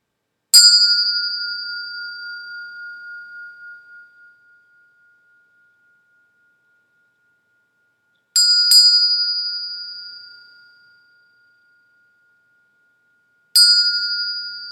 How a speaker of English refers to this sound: After the three bells, we'll get started.